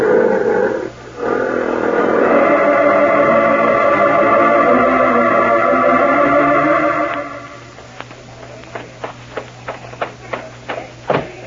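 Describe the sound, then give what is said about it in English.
Circus lions, loose after a man shoots the locks off the animal cages, roar in a loud, sustained, rumbling snarl for several seconds, then it drops away and a quicker run of sharp, clattering cracks follows, growing louder toward the end. “Our lions are loose. He's shooting the locks off the animal cages.”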